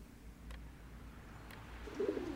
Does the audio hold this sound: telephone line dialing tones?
no